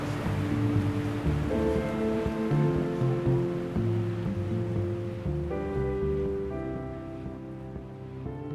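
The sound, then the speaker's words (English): A long, continuous rush of a long-running, programmed breaking wave at an artificial wave pool, ridden by a surfer, a steady roaring wash of water with sustained musical tones layered over it and no voices. “I have all the kind of natural feelings of, God, I wish I'd got that wave, and hope he doesn't blow it, and look how long that wave's going, and this is all, you know, this is programmed.”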